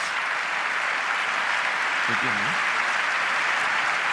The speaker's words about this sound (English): Euer Applaus und ihr kennt das.